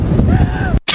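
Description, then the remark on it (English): A Channel 2 TV news scene-change graphic sound from a report on strong winds: a loud, dense rushing whoosh with faint rising tonal sweeps, cut off abruptly into a split second of silence before a bright, hissing burst kicks in. “That noise is an actual professional Channel 2 scene change graphic they've put in.”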